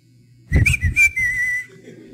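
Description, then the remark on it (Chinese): A person whistles a short tune, a few quick notes gliding into one steady held tone for about a second, with soft low thumps at the start. “比如说我很小，我的女儿很小，我就会吹口哨。”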